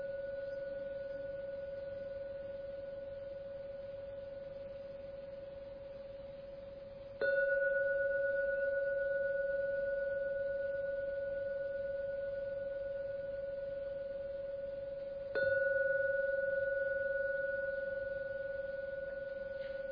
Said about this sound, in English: I'm now going to ring the bell, the gong. So please be patient and listen to the rings of the gong. And after the third ringing of the gong, it's a signal the meditation has ended.